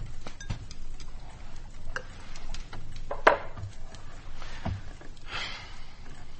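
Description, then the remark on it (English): Several household clocks, kept half an hour fast, tick together, their overlapping clicks forming an uneven, steady patter with no voices, soft. “She forgets Papa's bloody clocks for half an hour fast.”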